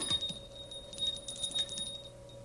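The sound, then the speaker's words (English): The shop door bell at Bob Trost jingles in a quick cluster of bright metallic tinkles, its steady ringing tone lingering underneath as the jangling fades. No one speaks. “That's the bell at Bob Trost.”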